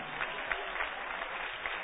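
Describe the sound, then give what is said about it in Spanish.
An audience applauding together in praise to the King (God) during a worship service, a dense steady wash of many hands clapping at once, fairly loud and sustained throughout with no voices standing out. “Dale un aplauso al Rey.”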